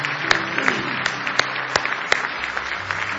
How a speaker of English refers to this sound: Give our King of Kings another hand clap of praise tonight.